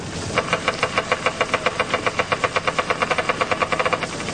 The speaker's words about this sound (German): Vorher jedoch setzt James Bond einen Geigerzähler zur Spurensuche ein.